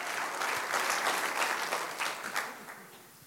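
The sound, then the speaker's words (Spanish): An audience claps steadily for the King of Kings during a sermon, a dense wash of many hands applauding at an even level that tapers off slightly toward the end, with no voices over it. “Aplauda al Rey de Reyes.”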